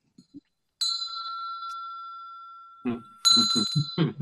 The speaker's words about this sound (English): I have a bell. My God. And I've used it before.